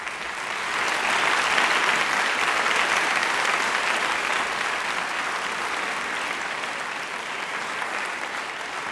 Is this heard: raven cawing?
no